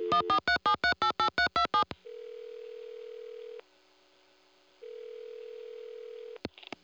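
A rapid run of about eight touch-tone beeps as a number is dialed, followed by a steady ringback tone that sounds twice with a pause between, then a click as the line picks up.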